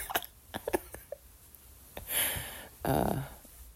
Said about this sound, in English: Alright, I'm gonna post this, and sorry, just hiccuped.